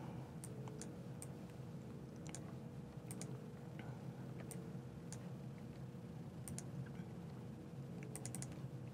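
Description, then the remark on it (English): Sharp computer mouse clicks land at irregular intervals, some single and some in quick bursts, over a steady low background hum with no talking, as someone clicks on a software demo environment. “So I'm clicking on my demo environment.”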